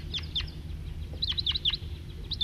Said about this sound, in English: there are a whole bunch of crossbills around here and there, including one male perched and singing, pointed at him, on the top of a fir, and a few scattered individuals around, and that's the lone male. Here comes a big flock of about 10,